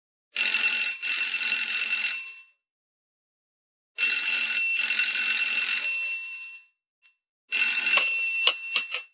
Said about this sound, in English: As it happened, the case was opened abruptly some 2 days later, when, shortly before 5 in the afternoon, Study received a phone call.